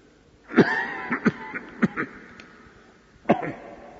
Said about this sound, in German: Teufel, hast du noch immer nicht aufgegeben, mich zum Husten zu bringen? Es wird dir nicht gelingen, meine Predigt zu kürzen.